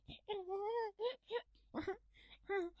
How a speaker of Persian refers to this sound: گریه چرا؟ بیا ببین چه توپ قشنگی داریم. گریه نکن مامان جون، بیا بغلم ببینم.